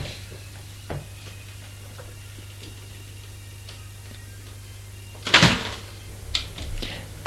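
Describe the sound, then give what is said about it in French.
A door is opened after a ring at the door, with a sudden, fairly loud clunk and rattle partway through, followed by a couple of fainter knocks, all over a steady low hum with no voices. “Il va ouvrir.”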